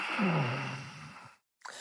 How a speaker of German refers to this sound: Einatmen, hörbaren Ujjayi. Ausatmen.